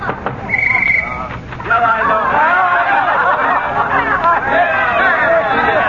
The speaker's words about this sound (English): Here we are. Oh, sounds like the old duffer's throwing a wing-ding in there.